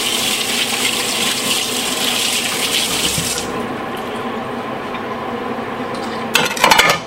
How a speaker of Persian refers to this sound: خب من ته این بشقابم یا آب بزنم.